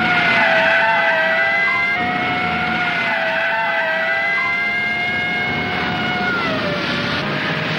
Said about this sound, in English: Now they turn onto a side street. Another police motorcycle tears after them.